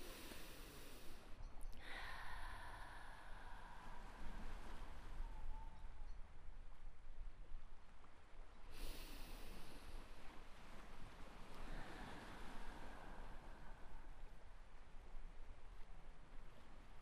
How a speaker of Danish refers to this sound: Jeg vil have, at du lukker øjnene og bruger din vejrtrækning til at mærke, at du falder mere og mere til ro. Lav nogle dybe vejrtrækninger til at starte med.